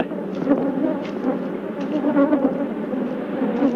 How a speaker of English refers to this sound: the bees persisted in their attack. Killer bees will pursue a victim great distances